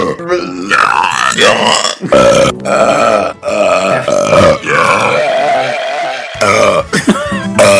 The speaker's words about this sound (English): Here's the disc of belches and the soy sauce. Thanks. Let's give this a listen.